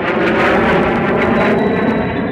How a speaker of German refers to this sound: Kennt den Spross, der ihr entsprungen, Lurchi, unseren frohen Jungen, welcher wie schon längst erwartet mit dem Düsenflugzeug startet. Nach den Anden steht sein Sinn, donnernd braust er kühn dahin.